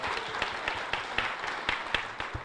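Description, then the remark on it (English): An audience applauds steadily to vote on a quiz question, a dense wash of many hands clapping at once, with sharper claps standing out at a quick, fairly regular pace throughout. “With applause, how many of you think the dog was the first animal in space?”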